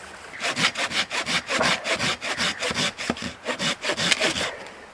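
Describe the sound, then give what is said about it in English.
A hand saw cuts through firewood in steady back-and-forth strokes, about three per second, each a bright rasping burst with a low thud underneath, continuous and fairly loud with no talking. “Look, there's plenty of firewood in there for tonight, but I'll probably cut up a little bit of firewood anyway, just so I can replenish it for the next person who comes along.”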